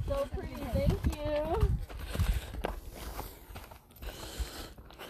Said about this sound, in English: That was majestic. That thing is huge, man. Beautiful horse. Majestic.